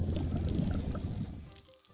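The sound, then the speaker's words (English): A forceful gush of water sprays from an animal's trunk for about a second and a half, then quickly tapers off to a faint trickle. No one speaks. “Whoa, you sprayed us with your nose hose, Franny!”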